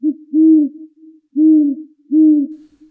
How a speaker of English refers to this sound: That was the great horned owl.